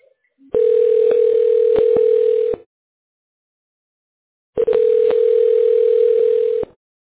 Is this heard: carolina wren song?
no